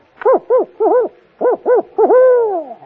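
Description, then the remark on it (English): A person imitates the hooting of a contented owl in good humor: five short, rising-and-falling hoots in a bouncy rhythm, then one longer drawn-out hoot that slowly fades, all fairly loud. “Well, when an owl is in good humor, he goes like this.”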